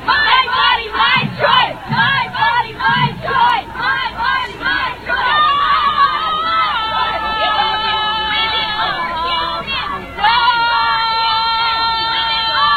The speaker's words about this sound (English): Now you're going to hear a young lady just scream her lungs out here in a second.